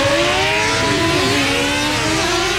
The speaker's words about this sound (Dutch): start zijn brommer